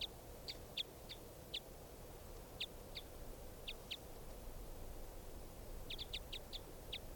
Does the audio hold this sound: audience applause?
no